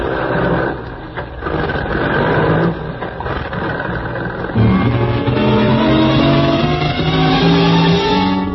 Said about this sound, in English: You swing the truck around the loading platform where you agreed to meet the Baron.